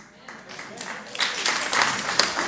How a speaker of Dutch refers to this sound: Dit zijn de wappies die nu klappen, dat snap je wel.